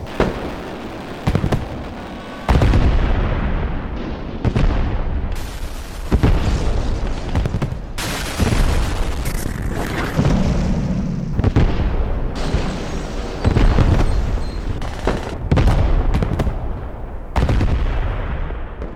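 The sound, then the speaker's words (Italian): A sudden, dense barrage of gunfire and shelling in a military offensive that overruns the Celere and Pasubio divisions: heavy booms and sharp blasts strike every metre and pile up continuously for nearly twenty seconds, loud throughout, with rapid overlapping bursts and no voices. “Se non vedono, sentono tuttavia l'inferno di fuoco improvviso, la gragnuola di colpi che s'abbatte su ogni metro.”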